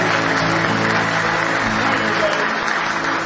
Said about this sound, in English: Give him a hand clap of praise if you love him this morning.